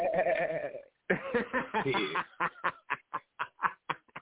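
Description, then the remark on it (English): A loud goat bleat: one long quavering cry, a short pause, then a run of choppy bleats breaking into quick, evenly spaced staccato pulses, like a stuttering laugh. “Oh, shit, goat throat.”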